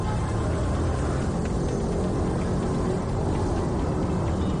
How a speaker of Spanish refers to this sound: Atascos y tráfico lento que se repite cada mañana.